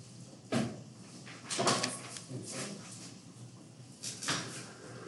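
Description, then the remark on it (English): A top drawer slides open and shut, with several short wooden scrapes and clunks spread over a few seconds and quiet pauses between them. “In that top drawer there. Yeah, in the black folder.”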